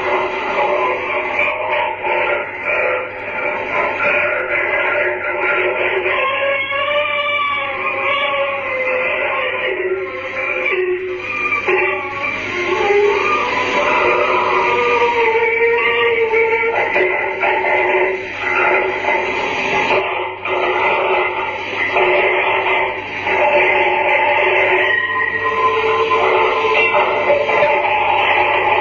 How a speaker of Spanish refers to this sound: En este fragmento se escuchan llantos durante la mayor parte del audio, lamentos que parecen ir a más según pasan los segundos y, finalmente, el sonido de unas campanas.